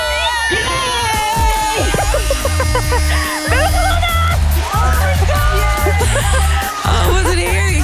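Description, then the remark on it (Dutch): A loud, chaotic burst of excited screaming and yelling from several people at once, voices overlapping with sharp rising shouts and bits of laughter throughout. “Zachter, anders hebben we nog een wijf die er doorheen schreeuwt.”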